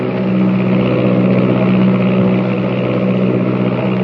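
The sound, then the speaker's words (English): A steady, loud propeller-airplane engine drones continuously, a constant low hum with rumbling overtones that never changes pitch or fades, as a slim silver plane flies southward through the night. “New Mexico, Texas, the Rio Grande, and the slim silver shadow of the plane threads its way southward through the night.”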